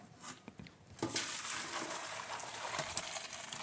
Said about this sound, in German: Die Nudeln sind gut. Sehr gut. Ich gieße die mal ab. Naja, sie waren ja eben schon fast gut.